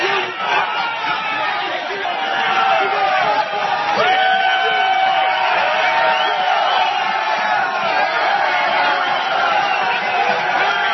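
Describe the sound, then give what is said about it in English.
A loud, dense crowd of about 12,000 protesters against an attack on unions in Michigan shouts, whoops and cheers continuously as they tear down a tent erected by an anti-union group on the Capitol lawn, many voices overlapping with no clear pauses. “The anti-union Tea Party group Americans for Prosperity erected a tent on the Capitol lawn, but it was torn down by protesters. This is what it sounded like as that tent came down.”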